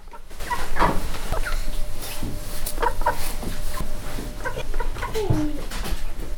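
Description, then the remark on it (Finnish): Several chickens cluck and squawk in short bursts over a steady, busy barnyard background, the calls scattered irregularly. “pitäisikö me nyt mennä katsomaan noita kanoja?”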